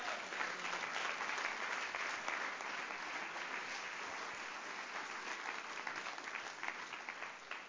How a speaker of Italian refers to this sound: Facciamo un applauso al re.